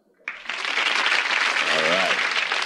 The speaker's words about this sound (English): Now that sign says applesauce. No. I'm kidding. It says applause.